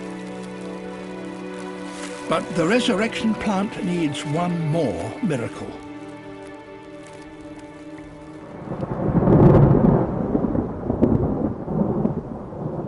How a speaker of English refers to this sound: Rain must fall on its branches before they dry out and close up again.